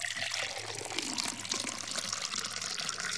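Water pours steadily into a container, a continuous splashing, gurgling stream that stays loud for the whole stretch with no voices over it.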